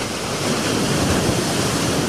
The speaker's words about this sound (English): I didn't realize we were so close to the ocean. We're on an island. But I never noticed the sound of the waves before, and it seems to be coming from this room. Maybe the show is sinking. It's happened before. Actually, it's my new sound box.